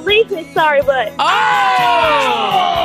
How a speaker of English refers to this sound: Dad's in the background rooting her on.